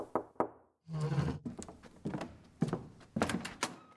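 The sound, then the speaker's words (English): Two sharp knocks rap on a wooden door, followed by a series of dull thuds and rattles, like the door being handled and opened. No one speaks. “Until one morning, unexpected, a knock on the door.”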